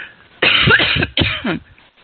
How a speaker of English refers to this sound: I have a cough.